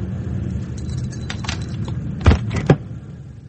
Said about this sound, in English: No, nothing inside the car. Let's open the boot.